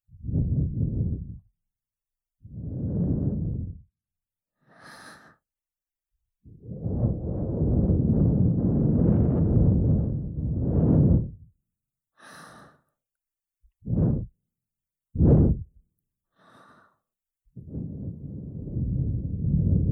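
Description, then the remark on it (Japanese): Warm, breathy exhales blown into the ear on this side as well: about nine soft, airy breaths, some long and drawn out, others short quick puffs, with brief silences between and no talking. “こっち側も私のあったかい吐息で気持ちよくなってね。”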